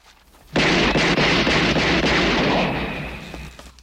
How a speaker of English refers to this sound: He removes his gun, steps forward, and shoots at the closed door.